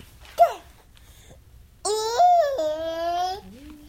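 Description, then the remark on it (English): A played recording of a 16-month-old baby boy with 22Q babbling in two bursts: a short rising squeal, then after a pause a longer, louder drawn-out vocal sound with wavering pitch that drops low at the end. No adult speech. “He says cat sometimes. It wasn't so clear in that one.”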